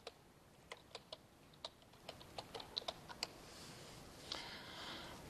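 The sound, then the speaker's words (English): Someone types numbers and labels on a computer keyboard in short, irregular bursts of crisp clicks, fairly quiet, ending with a brief soft rustle; no one speaks. “I'm not going and typing one out and doing all the calculations.”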